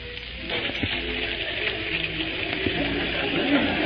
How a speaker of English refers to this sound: And right here is where I spend many happy hours. Let us tarry a while by this waterfall. Waterfall?